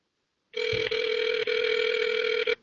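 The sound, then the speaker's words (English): A phone ringback tone plays over a cell phone on speakerphone: a steady electronic ring lasting about two seconds with brief dips, loud, with no voices. “I think I'm going to give him another call real quick.”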